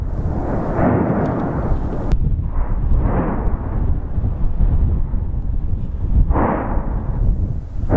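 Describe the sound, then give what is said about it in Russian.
Explosions from an eruption of Mount Etna in Sicily, Europe's most active volcano, roll out as a constant deep, loud rumble, with several heavier booming bursts surging up over the roar, including one near the start and another close to the end. “Самым большим неудобством являются звуки взрывов и пепел”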